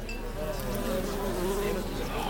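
A wasp that has got indoors buzzes steadily, its drone wavering slightly in pitch as it hovers and moves around, with no voices present.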